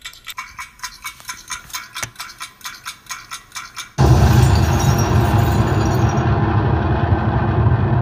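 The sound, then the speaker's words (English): A mechanism ticks in a steady, quick rhythm, roughly two to three clicks per second, for about four seconds before a loud, continuous rumbling roar abruptly cuts in and takes over. “It's ticking.”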